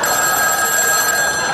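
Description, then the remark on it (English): A telephone rings loudly, a steady, bright electronic trill sustained through the whole short moment, with no voices present. “Like 98% are first ring pickups.”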